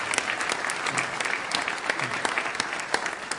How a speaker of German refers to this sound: für die gute Musik und auch die ganzen anderen, die hier, ja genau, Applaus.